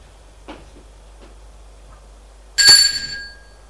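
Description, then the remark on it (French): A man who has just left the lift on an upper floor rings a doorbell once, bright and loud, its metallic tone fading over about half a second, preceded by a few faint, soft knocks or clicks. “Il va sonner à la porte.”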